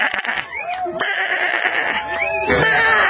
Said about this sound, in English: Listen. Oh, listen to the sheep bleat.